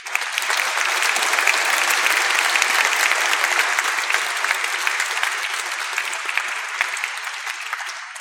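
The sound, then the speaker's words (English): An audience at a live music performance claps steadily for several seconds, thanking Central Secondary School for donated equipment, a dense, crackling wash of applause that holds at an even level throughout, with no one speaking. “That is a huge help for us, so a round of applause, please.”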